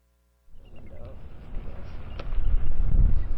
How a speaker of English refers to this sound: It's a cold and windy winter day on Amaknak Island.